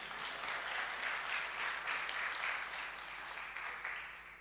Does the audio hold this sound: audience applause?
yes